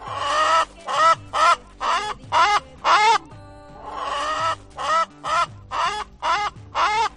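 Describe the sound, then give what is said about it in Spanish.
Hens clucking at La Granja de la Abuela Pilar, a crowdfunded farm in Casas de Bes, Albacete, Spain, where they were taken out of cages to lay eggs freely, in a loud, rhythmic series of about a dozen harsh, raspy calls, broken by a short pause midway where a low steady tone continues underneath. “Ahora estas gallinas que estamos escuchando, a las que Rosana saca de jaulas y devuelve la libertad para que críen huevos como gallinas felices, se han convertido en todas unas influencers.”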